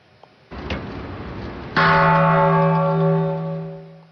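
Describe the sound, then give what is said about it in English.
The Peace Bell at the United Nations, presented by Japan and cast from coins collected from nations around the world, is struck once at the annual ceremony ahead of the International Day of Peace, ringing out loud with a deep, sustained hum that slowly fades, after a brief stretch of soft background noise. “The annual ceremony of ringing the peace bell at the UN takes place ahead of the International Day of Peace on September 21st.”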